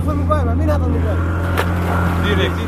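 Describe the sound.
An outboard motor on an inflatable migrant boat drones steadily, a constant low hum that never varies, while voices talk over it throughout; the boat, started by one of the smugglers, is crossing the Aegean Sea toward Chios at night.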